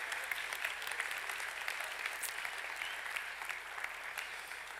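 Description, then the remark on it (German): An audience claps steadily for several seconds in applause for craftspeople, a dense wash of many hands applauding at once, fairly loud and continuous without pause. “Also alle Handwerker, mal einen Applaus an euch.”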